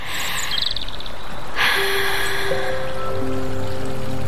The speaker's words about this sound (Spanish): Ese momento en que te descalzas, metes un dedo en el arroyo y...